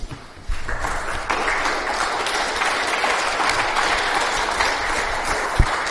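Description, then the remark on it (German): A crowd breaks into sustained applause as thanks for the work that made an exhibition possible. The clapping is dense and steady, swelling after a quiet start and holding at an even loud level throughout, with one sharper clap standing out near the end. “Und einfach ein Danke dafür und dafür bitte einen Applaus.”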